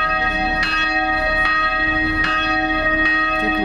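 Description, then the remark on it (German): Monastery church bells ring steadily at midday, with strong strikes roughly every three-quarters of a second over a sustained wash of ringing overtones. They are loud, with no voices. “Hier mittags 3 Minuten lang. Und mit dem letzten Glockenschlag wollen wir dieses schöne Kloster verlassen.”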